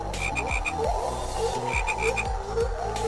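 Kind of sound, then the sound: animal, frogs croaking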